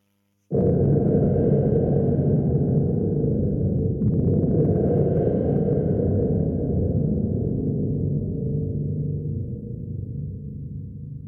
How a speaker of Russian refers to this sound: Их изобразит тебе уже знакомый шумовой ударный инструмент — барабан гром.